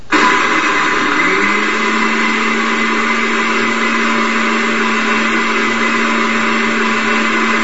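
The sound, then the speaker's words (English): A blender powered by a Kodiak solar generator whirs loudly and steadily from start to finish, a dense motor roar with a sustained hum settling in after the first second, with no voices. “A blender,”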